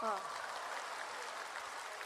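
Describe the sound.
A steady wash of clapping from a crowd, sustained at an even level for about two seconds, with a brief voice at the very start.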